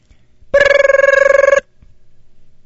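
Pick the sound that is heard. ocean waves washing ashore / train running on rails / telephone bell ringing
telephone bell ringing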